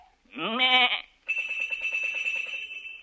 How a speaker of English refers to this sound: He say, a lot of sheep have bells, but these sheep are tuned. Says to make the chromatic scales, which he make use of by knocking the sheep on the head with his crook, a signal to them to ring the bell.